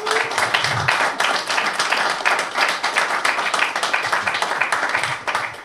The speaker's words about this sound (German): Bitte Applaus für unsere Gäste.